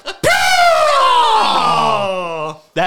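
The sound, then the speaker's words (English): A single loud, drawn-out scream from a man, a presidential candidate at a campaign rally, bursting in high and strained, then sliding gradually lower over about two seconds before cutting off, harsh. “That scream is the reason his presidential bid failed.”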